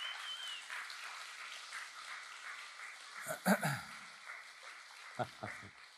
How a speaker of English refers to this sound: That's awesome. Let's just give these guys a round of applause.